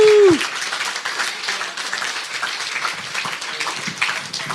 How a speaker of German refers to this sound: Ihr habt letztes Jahr geheiratet, oder? Ja. Ja. Wer hat ihn noch nicht gratuliert? Dann jetzt die Chance. Ein Applaus für die beiden. Herzlichen Glückwunsch.